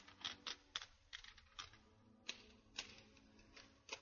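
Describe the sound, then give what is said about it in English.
Typing on a typewriter, a steady run of sharp mechanical key strikes at an uneven pace, clear, with no voices. “Well, they all laughed when he sat down at the typewriter.”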